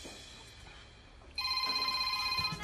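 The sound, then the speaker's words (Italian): A mobile phone starts ringing partway through with an incoming call from an unknown number, a bright electronic ringtone with steady tonal pulses, fairly loud over a low background hum. “Chi è questo? Non conosco il numero, stai calmo. Pronto, chi è?”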